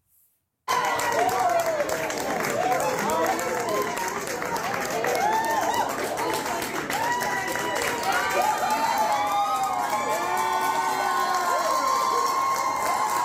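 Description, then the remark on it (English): Democratic legislators in the Nebraska state legislature cheer and whoop loudly after a bill fails, many voices overlapping in excited shouts with scattered clapping, sustained steadily for over ten seconds after a brief silent start. “That's what they're cheering.”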